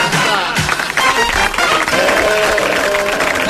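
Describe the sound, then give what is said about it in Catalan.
An audience applauds loudly and steadily, a dense wash of many hands clapping for the whole few seconds, with a few voices cheering over it toward the end, closing the Cabralunya Informació news bulletin. “Fins aquí l'informatiu que s'aplaudeix.”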